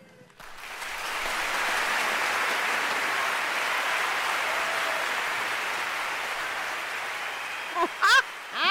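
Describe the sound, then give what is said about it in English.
Sustained audience applause: a dense, steady wash of clapping that rises quickly and holds for several seconds, followed by a couple of brief, higher-pitched whoops or cheers near the end. “Wait, you hear that applause? There was so much applause.”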